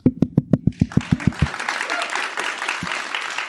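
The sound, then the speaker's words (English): A few sharp, evenly spaced claps from one person quickly swell into prompted applause from a live event audience, a dense crackling wash that holds at a moderate level to the end. “Yeah, yes, and thank you for the prompted applause there.”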